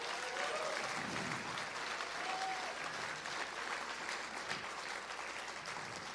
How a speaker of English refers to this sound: So can we give a big round of applause for our AV volunteers?